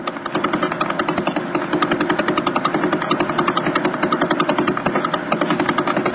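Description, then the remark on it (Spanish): Sonified Vela pulsar, the remnant of a supermassive star's explosion only about 10,000 years ago, rotating 11 times per second: a loud, steady stream of rapid pulses forming a continuous chopping throb much like a helicopter rotor, with no voices. “Vamos a poner el sonido ahora de un pulsar que se llama Vela, que es el resultado de la explosión de una estrella supermasiva hace tan solo 10.000 años.”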